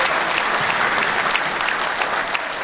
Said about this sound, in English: Come on, somebody give Jesus a hand clap in his house.